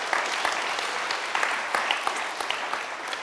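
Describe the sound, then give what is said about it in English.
A crowd claps steadily for a few seconds, a dense patter of many hands at an even, moderate loudness with no voices rising above it. “You should have clapped there.”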